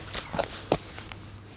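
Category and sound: human body sound, footsteps walking outdoors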